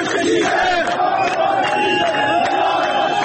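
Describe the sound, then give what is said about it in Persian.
Striking workers at Bahman Diesel in Qazvin chant protest slogans, a crowd of voices in loud, steady unison, the massed shouting rising and falling in a rhythmic pattern with no pause for the whole stretch. “اعتصابی همراه با شعارهای اعتراضی.”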